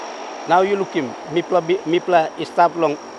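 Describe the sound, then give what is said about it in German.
A steady, droning airplane engine hum with a thin high whine runs throughout, constant, while a person talks over it in the foreground; the plane is flying over the Pacific Ocean in Oceania. “Ich glaube, man muss Ozeanien von oben aus dem Flugzeug gesehen haben, um zu verstehen, was für Menschen hier leben. Unter mir liegt der Pazifik.”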